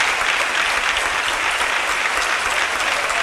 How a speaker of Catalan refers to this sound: I continuen els aplaudiments. Amb força, amb ganes. Amb cares d'absoluta satisfacció.